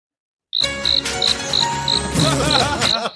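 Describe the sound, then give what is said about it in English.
Crickets chirp in a steady, evenly spaced rhythm, about three chirps a second, over a dense night-time background hum. The sound is clear and fairly loud, with no voices. “an insulting patch of who turned the crickets on?”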